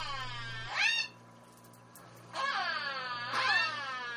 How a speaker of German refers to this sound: Und hier nun die Aufnahmen zweier Orcas, die in Gefangenschaft leben.